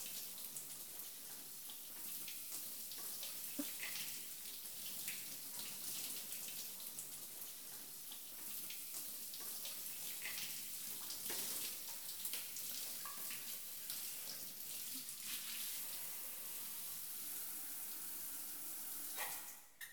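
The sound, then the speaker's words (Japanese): Steady running shower water hisses and splashes for the full duration, a continuous spray with small spattering variations and no voices, its temperature just set before a hair wash. “では、シャワーの温度はそのように。”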